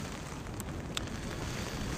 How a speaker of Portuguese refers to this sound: E agora com um puta vento assim também. Tá foda essa chuva.